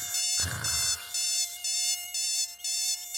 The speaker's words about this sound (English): Dude, it's not the game. That's your alarm clock.